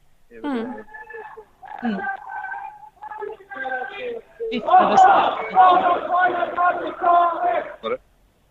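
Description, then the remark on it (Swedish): At a street demonstration march, a few loud shouted calls, then a dense burst of crowd noise with shrill whistles and yelling voices for about three seconds before it cuts off abruptly, all with a thin, tinny tone. “Vittar och skriker lite.”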